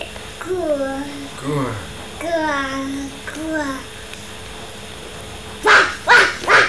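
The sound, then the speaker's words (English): A child imitates a dog, with a few drawn-out, whiny woofs and yips followed by three quick, breathy bark-like huffs, fairly loud. “We're a dog again.”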